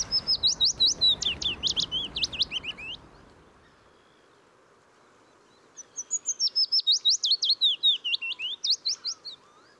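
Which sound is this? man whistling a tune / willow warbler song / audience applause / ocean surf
willow warbler song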